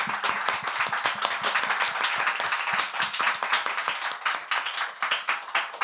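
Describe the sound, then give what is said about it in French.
An audience at a live show applauds steadily, many hands clapping in a dense, continuous patter that stays fairly loud throughout, with no voices standing out. “Donc voilà, je voudrais qu'on l'applaudisse s'il vous plaît.”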